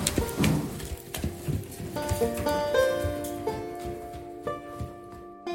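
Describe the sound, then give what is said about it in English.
A Mustang, a wild horse sold by the federal government, shifts and snorts, with soft hoof clops and breathy huffs over several seconds, while steady sustained tones hum underneath. “And I just want this horse to know that he's safe with me and that we're going to be friends for a long time.”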